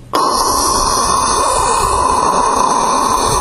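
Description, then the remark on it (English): A loud, steady roar of rushing water from a giant waterfall on a river just below rapids starts abruptly and holds a constant, full, hissing rumble with no pauses or talking. “It was a giant waterfall just below the rapids.”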